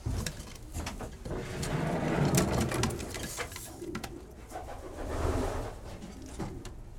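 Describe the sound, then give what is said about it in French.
Pigeons coo softly in an enclosed loft, their low murmurs overlapping continuously while sharp clicks and flutters of wings and feet scatter through the scene. No one speaks. “Donc je suis né avec les pigeons, hein.”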